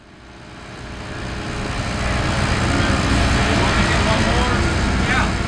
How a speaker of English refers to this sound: In Tulsa, the sound of new construction is music to the ears of city leaders. The jackhammers and cement saws that are laying down new roads and putting up new apartment buildings are a welcome noise in an American city that's been shrinking.